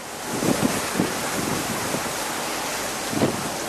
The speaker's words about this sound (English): Those are waves crashing against a cargo ship that Paul took across the Caspian Sea, one part of his global trek that forced him off land.